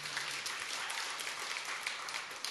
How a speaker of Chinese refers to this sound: 我们给耶稣一个掌声。